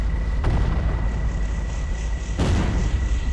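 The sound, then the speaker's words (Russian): Two grenades, thrown at the feet of creatures climbing up slopes, explode about two seconds apart, each a sharp, loud blast trailing into a deep, continuous rumble, with no voices present. “Бросив под ноги взбирающимся по склонам тварям две гранаты, я завел Гранд Чероки и ударил по газам.”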